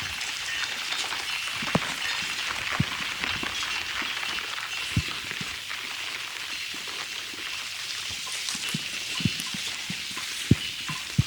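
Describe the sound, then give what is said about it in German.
Steady rain falls outdoors, a dense continuous hiss with scattered sharper drops tapping surfaces throughout, no voices present. “Muss ich mal ein bisschen in den Regen gehen.”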